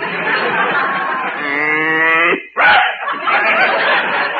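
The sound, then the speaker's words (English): A single low, steady cow moo at a livestock judging show lasts about a second, surrounded by loud, continuous crowd laughter that briefly drops away just after the moo ends. “My cow could have been the best cow in the show, but there was a blot on her record.”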